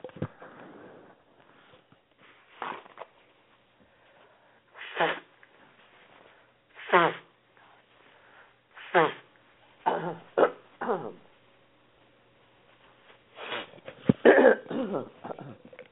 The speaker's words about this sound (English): and gentlemen, my friends, I am going to take one moment here because I need to cough and to blow my nose. So give me 1 second. I'll be right back.